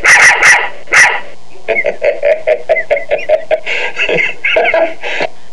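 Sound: dog barking loudly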